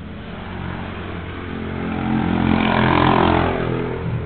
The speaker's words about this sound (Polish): To był niewielki motorek z wielce hałasującym tłumikiem.